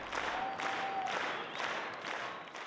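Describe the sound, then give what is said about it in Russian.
Dense, steady applause from the audience at the St. Petersburg Circus on Fontanka for the tightrope-walking bears programme, a continuous wash of many hands clapping at once with a brief faint whistle-like tone early on, sustained at an even level throughout. “Программа «Медведи-канатоходцы» или «Мамба-карамба», представленная в прошлом месяце в Санкт-Петербургском цирке на Фонтанке, вызвала восторг и бурные аплодисменты зрителей.”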